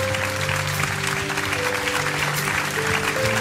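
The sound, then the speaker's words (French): An audience at a church service applauds the word of God in the morning after a Bible reading, a dense crackle of many hands clapping at once, with sustained organ or keyboard tones holding underneath throughout. “Est-ce qu'on peut applaudir la parole de Dieu ce matin?”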